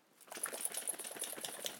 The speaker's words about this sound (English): Nice. I love the ear waggy sound. It's brilliant.